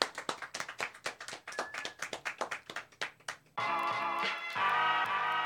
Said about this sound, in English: let's give a warm round of applause for the Most High Show